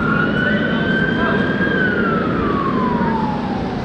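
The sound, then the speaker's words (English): A siren wails steadily over a dense wash of street traffic noise on Queen Street on New Year's night, its pitch holding high before sliding slowly downward as the emergency vehicle passes. “Man, a lot of sirens tonight on Queen Street.”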